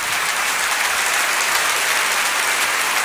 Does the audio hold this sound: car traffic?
no